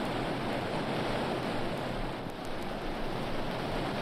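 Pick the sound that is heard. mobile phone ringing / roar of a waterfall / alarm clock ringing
roar of a waterfall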